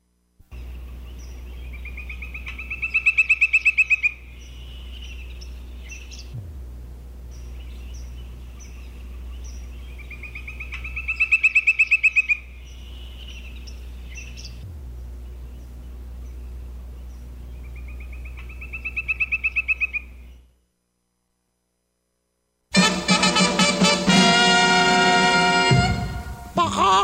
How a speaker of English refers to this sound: Woodpecker's song.